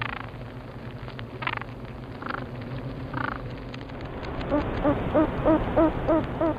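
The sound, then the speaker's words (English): A honeybee DVA shaking vibration signal, one honeybee shaking another bee: a few scattered buzzy bursts, then a quick, steady series of short low throbbing pulses over a constant hum, moderately loud, with no voices. “Here's another honeybee signal. It's called the DVA signal. It's one honeybee shaking another bee.”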